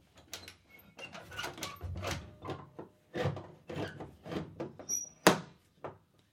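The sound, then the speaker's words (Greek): A door is pushed shut with one sharp, solid thud near the end, preceded by a run of shuffling footsteps and light knocks as nurses are called in. “Ελάτε εδώ, αδελφές. Κλείστε και την πόρτα.”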